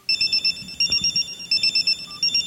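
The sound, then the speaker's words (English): A cell phone ringtone is played as a demonstration: a bright, electronic trill repeating in quick pulsing bursts throughout, with brief pauses between groups. It is fairly loud, with faint background rumble and no speech. “I can't believe I'm the one that's gotten my ringers on the air faster”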